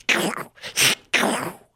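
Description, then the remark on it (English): A voice imitates Donald Duck sneezing: three raspy, breathy bursts in quick succession, the middle one sharpest, with a quacking, throaty quality and no words. “Now listen, this is Donald Duck sneezing.”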